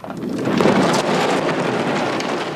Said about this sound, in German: Draußen tobt ein furchtbarer Sturm.